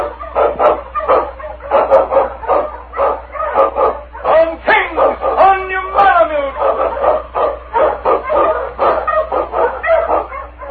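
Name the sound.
sled dog barking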